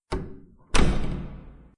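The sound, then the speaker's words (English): A door-locking sound effect: a sharp thunk, a brief pause, then a heavier clunk that rings out for about a second, fairly loud with no one talking. “You have to wait till you finish locking the door”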